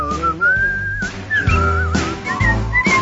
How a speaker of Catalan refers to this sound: Ai, aquestes hores els xiulets no en surten gaire bé, aviam.